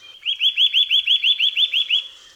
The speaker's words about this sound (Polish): śpiew kowalika to donośna seria szybkich, miękkich i wibrujących dźwięków.